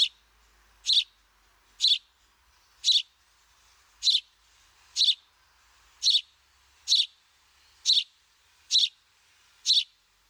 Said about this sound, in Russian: Я вот предлагаю сейчас послушать сначала голос домового воробья, вспомнить вот этот характерный голос этой птицы, узнаваемый нами. Давайте послушаем.